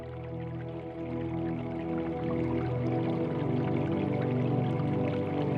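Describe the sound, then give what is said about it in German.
A fountain splashes gently and continuously, a soft, steady trickle with faint drips, holding an even volume throughout, over a low sustained tonal hum and with no voices. “Das leise Plätschern des Brunnens.”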